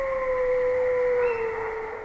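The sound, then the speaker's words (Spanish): A single sustained wolf howl, a long steady tone that slowly slides lower in pitch and fades slightly at the end, heard alone without any talking. “Ahí estamos con el aullido que te pone los pelos de punta.”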